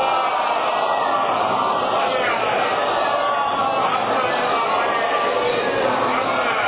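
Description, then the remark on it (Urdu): A large audience recites salawat aloud together, a dense, steady wall of many voices chanting in unison that holds at an even, loud level for several seconds without a pause. “بارگاہ حضرت امام زمان علیہ السلام میں ان بزرگان کی تعزیت پیش کرنے اور آپ کے ظہور کی تعجیل کے لیے باعوذ بلند صلوات.”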